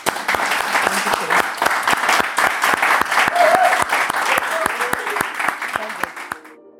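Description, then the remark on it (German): An audience applauds after an Ocean Talk, with dense, sustained clapping for about seven seconds, a few scattered voices rising faintly beneath it before the applause thins and fades out at the end. “Und deswegen erstmal vielen, vielen Dank für einen tollen Ocean Talk und einen Applaus.”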